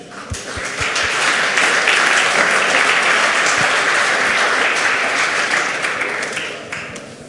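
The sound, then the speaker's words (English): A crowd at the CCC Congress breaks into steady, loud applause welcoming a speaker, lasting about seven seconds, with many overlapping claps forming a dense wash that swells quickly, holds, and tapers slightly toward the end. “I think we can start with a warm applause for Peter.”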